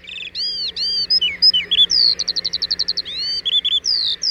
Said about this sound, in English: Around 1902, skylarks were brought to Vancouver Island from England to satisfy the desire of English immigrants there to hear their exalted song. And this remains the only place in North America where the skylark can still be heard.